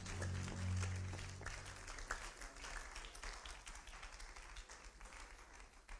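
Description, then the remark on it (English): An audience claps together in a dense, steady burst of applause, loudest at the start over a low rumble, then continuing as a busy, slightly thinning patter of many hands. “Clap those hands again.”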